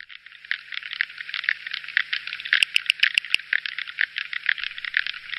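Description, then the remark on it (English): Underwater recording of sperm whales off the Azores, made in 1996 by Kurt Frustrup: a brief, evenly spaced burst of about half a dozen sharp, loud clicks rising out of a steady background of dense crackling and fizzing. “I happen to have some sound of sperm whales wonderful.”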